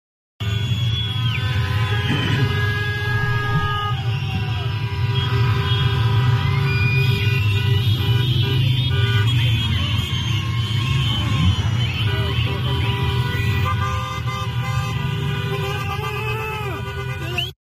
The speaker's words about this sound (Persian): کرج قیامته، هم شادن هم بوق میزنن